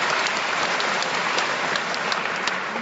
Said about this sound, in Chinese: 谢谢，非常感谢先生，你的乡音让人感到非常的温暖，您对江苏企业的发展提出的这么好的建议也让人收获不浅，让我们再一次掌声感谢你，非常感谢先生。